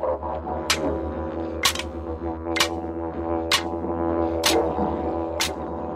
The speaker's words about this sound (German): Aber man kann damit auch Musik machen, indem man die Bumerangs aneinander schlägt.